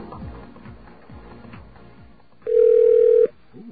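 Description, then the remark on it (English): A telephone being dialed to call the caller's own phone number: after a few seconds of low, murmuring background noise, one loud, steady electronic keypad tone sounds for under a second, then cuts off. “Let's dial our own phone number.”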